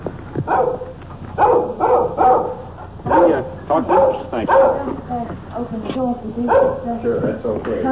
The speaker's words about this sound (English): This little dog following us. Keeping at a safe distance. He's making an awful lot of noise for a little fella.